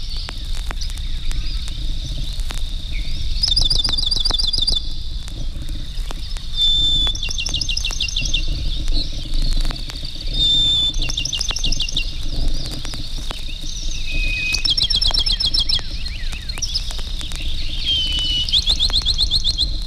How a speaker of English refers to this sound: Songs of the pinewood sparrow usually begin with one long note followed by rapid notes, which may be either higher or lower in pitch.